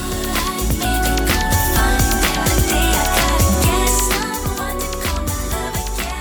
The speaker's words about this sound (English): It was a high-pitched piano line that stuck out kind of quietly above the guitar jangles. Listen again and see if you can hear it.